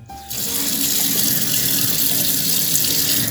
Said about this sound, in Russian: Подготовим курицу. Ее нужно тщательно промыть.